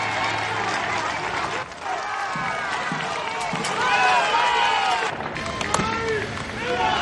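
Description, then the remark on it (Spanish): A large outdoor crowd applauds and cheers continuously as the king and queen of Spain arrive to preside over a parade, with overlapping shouts of "Long live the king and long live Spain!" and voices rising and falling in a dense, steady wash of noise. “Recibimiento sin duda muy distinto al de sus majestades los reyes encargados de presidir el desfile y que han llegado entre aplausos y gritos de ¡Viva el rey y viva España!”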